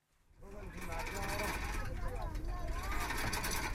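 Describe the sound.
A continuous metallic rattling and clanking as a ferryman hauls a ferry boat along a simple iron chain across the water to a small island in the south of Cairo, Egypt, steady and fairly loud throughout, with indistinct voices mingled in the background.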